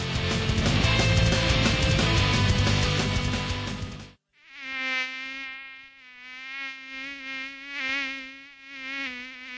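A dense, noisy burst of sound gives way to a high-pitched mosquito buzz that whines steadily for several seconds, swelling and fading slightly as if circling.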